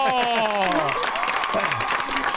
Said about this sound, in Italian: Un applauso!